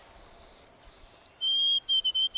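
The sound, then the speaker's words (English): A white-throated sparrow sings clear, pure whistled notes: two long high tones, then a slightly lower note broken into a quick run of short repeated whistles, with no talking. “In the east, you're more likely to hear the sweet, wavering song of the white-throated sparrow.”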